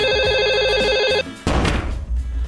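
A telephone rings loudly with a warbling electronic trill for about a second, during a prank in which two mobile phones call Westport Garda Station and Castlebar Garda Station at the same time, then cuts off and gives way to a burst of rough, noisy background sound.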